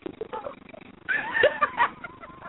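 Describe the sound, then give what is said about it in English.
Kitty, a neighbor's white cat, meows in a drawn-out, wavering cry that bends up and down in pitch for over a second, fairly loud, after a quieter stretch of low background murmur. “Kitty's your sound effect.”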